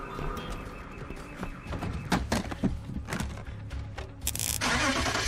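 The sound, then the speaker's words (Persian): A car engine turns over with a few mechanical clunks and a low, uneven churn, then catches and roars up loudly near the end, with no talking. “آره خودشه. پس را بیافت دیگه، زود باش.”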